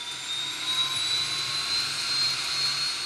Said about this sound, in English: A plane owned by the National Aeronautics and Space Administration, or NASA, prepares for takeoff from Truax Field in Madison. It's heading for high above Lake Michigan near Sheboygan.